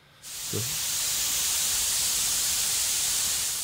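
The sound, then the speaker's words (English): A sudden burst of hissing steam, used as a sound effect, starts after a brief pause and continues steadily, loud, a broad rushing hiss with no talking. “Ooh, steamy in here. Let me wipe off my glasses.”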